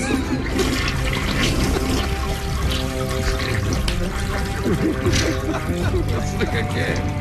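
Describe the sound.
A toilet flushes with a loud, steady rush of swirling water that continues for about seven seconds, while voices talk over the gurgling torrent.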